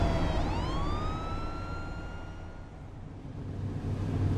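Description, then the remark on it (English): The siren of a fire engine driving behind a van swells upward in pitch and then holds a long, steady wail, loud over a constant low rumble of engine and road noise. “There's a fire engine behind us.”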